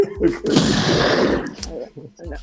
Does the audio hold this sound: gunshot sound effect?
yes